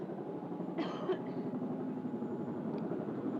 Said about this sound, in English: I hope you can hear my voice over the airplanes. I wait until I think there won't be any planes, but it's only a matter of minutes before some more come over.